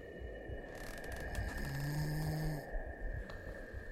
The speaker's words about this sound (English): I opened the window and heard a man snoring.